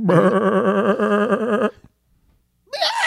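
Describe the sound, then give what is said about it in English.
A person does a loud goat bleat impression, one long quavering "maa" lasting under two seconds. A brief silence follows, then another voice sound begins. “I talk to goat. I talk goat.”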